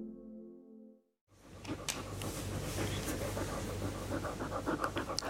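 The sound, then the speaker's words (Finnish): A dog pants rapidly and steadily in breathy, rhythmic huffs for several seconds, after a brief low harmonic hum and a moment of silence at the start. “Koira vieressä rapsutettavana.”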